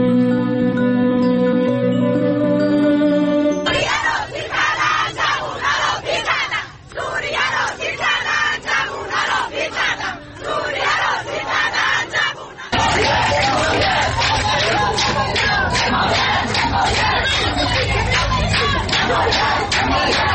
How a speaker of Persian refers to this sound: صدای زنان رساتر از آن است که شنیده نشود. در ویدیوهای منتشر شده بر روی شبکه‌های اجتماعی، فریادهای آنها یا در میان جمعیت شنیده می‌شود و یا تاریخ و محل تهیه ویدیو را اعلام می‌کنند.